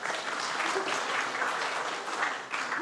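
A crowd applauds steadily, a dense wash of many hands clapping at a constant, fairly loud level with no voices standing out.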